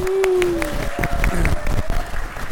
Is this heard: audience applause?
yes